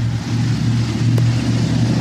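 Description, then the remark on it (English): A loud, deep engine rumble from a heavy truck in Alabama drones steadily, its low growl holding constant throughout with no voices. “Loud Alabama truck.”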